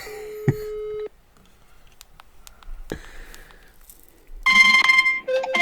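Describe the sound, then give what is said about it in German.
An outgoing phone call's ringing tone: one steady, mid-pitched electronic tone lasting about a second, then near silence with a few soft clicks, and finally a burst of muffled, crackly line noise. “Aber er sieht doch, dass du ihn anrufst.”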